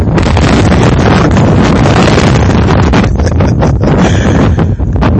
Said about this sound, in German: Ich hätte jetzt gern spaziert und das aufgenommen. Aber das geht jetzt wieder nicht. Weil dieser scheiß Wind macht sich auch ein bisschen mühsam